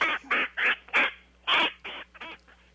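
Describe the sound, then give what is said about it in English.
A parrot on a person's shoulder squawks, letting out about eight harsh, raspy calls in quick, uneven succession, loud and alone with no voices. “Well, I have a parrot on my shoulder.”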